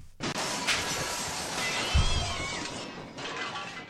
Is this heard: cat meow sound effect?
yes